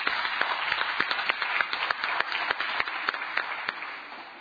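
Steady applause at a town council meeting welcoming a new council member after a unanimous vote, many hands clapping in a dense, continuous patter with sharper individual claps poking through, holding at a moderate level before tapering slightly at the end.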